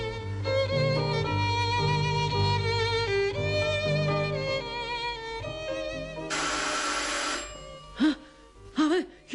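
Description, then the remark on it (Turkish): A doorbell rings on a warm spring day with a loud, sustained electronic chime, its bright tones repeating for about six seconds before a burst of hiss and a few short, swooping chirps. “Ilık bir bahar günü kapının çalınmasıyla başlamıştı her şey.”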